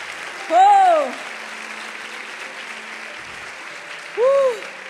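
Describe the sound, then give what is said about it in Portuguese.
A large audience applauds the Lord during a sermon, clapping steadily in a dense, continuous wash of applause, with two brief rising-and-falling cheers or whistles standing out near the start and end. “Pode aplaudir o Senhor.”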